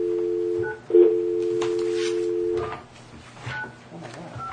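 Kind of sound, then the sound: signal or alarm, telephone keypad dialing tones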